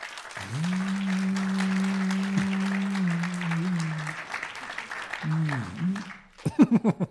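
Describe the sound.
An audience claps for a participant and her magic question, steadily in a dense, continuous patter for several seconds while a steady low tone hums underneath, then the applause thins out and a voice starts talking at the end.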